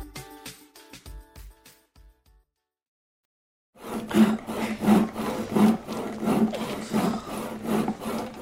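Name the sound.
hand saw cutting wood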